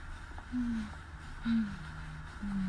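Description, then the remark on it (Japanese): Heavy, labored, out-of-breath breathing of a person out for a walk while filming, with three short voiced exhales about a second apart over a low, steady background rumble. “なんか息切れ気味。”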